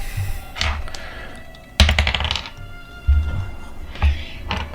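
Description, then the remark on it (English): Dice are rolled across a tabletop, landing on a 9 and a 6, in a quick burst of rattling clicks and knocks, with a few scattered thunks before and after, fairly loud. “I rolled a 9 and a 6.”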